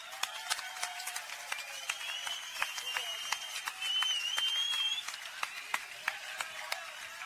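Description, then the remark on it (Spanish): A crowd gives a loud round of applause to the venue, with a steady wash of overlapping claps and sharp individual hand claps, and a rising whistle cuts through near the middle before the clapping carries on. “Y ahora sí que os voy a pedir a todos que brindemos un fuerte aplauso a esta santa casa, hombre.”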